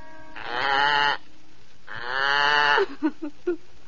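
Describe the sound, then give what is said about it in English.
A little goat grazing on soft green grass bleats twice in long, wavering, nasal cries with a pause between, then gives three short, clipped bleats. No voices are heard. “As our story begins, poor, unhappy Two Eyes' cruel mother and envious sisters have sent her out, hungry and alone, to tend their little goat as it grazes on the soft green grass.”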